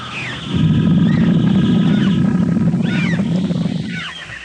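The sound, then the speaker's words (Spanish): A man standing in grass, hands cupped to his mouth after a deep breath, imitates a tiger's roar: a deep, sustained growl that rumbles loudly for about four seconds, with faint chirping birdsong above it. “se lleva las manos a la boca. Aspira profundamente y emite un sonido igual al rugido del tigre.”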